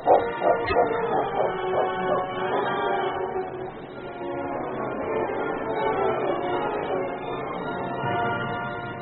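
King, a Mountie's dog tracking a child by a stream, barks a few times and then whimpers and whines almost continuously, fairly loud, with a slightly muffled, narrow-band quality.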